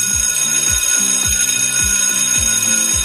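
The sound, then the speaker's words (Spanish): A loud school bell rings continuously with a steady metallic clatter, pulsing in a regular rhythm about twice per second, heard alone with no voices. It is the classroom bell that marks the start and end of each school day. “Y es cuando en las aulas el timbre que marca cada día, el comienzo, el final de cada jornada, pues no volverá a sonar hasta el próximo mes de septiembre.”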